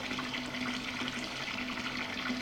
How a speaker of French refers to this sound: Prend sa douche